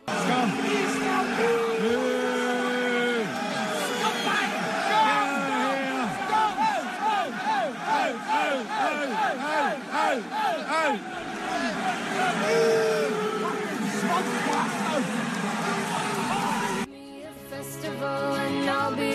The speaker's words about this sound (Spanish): Entre otras cosas, además de gritos de fuera a fuera, les llaman escoria, les llaman absolutamente de todo. Al presidente, al director ejecutivo,